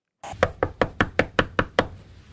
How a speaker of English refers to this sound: No one answered at the home when we knocked.